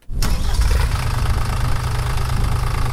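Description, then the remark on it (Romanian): A new tractor's engine cranks and catches at a vegetable greenhouse on the edge of the town of Comrat, then settles into a steady, rumbling idle, its low chugging running continuously with no one speaking. “Proprietarul serei de la marginea orașului Comrat tocmai își cumpărase un tractor nou dintr-un grant”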